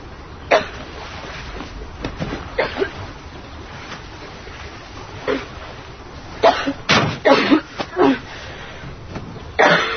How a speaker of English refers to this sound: Hey. Make sure you go see my Aunt Lori. You gotta get rid of that cough.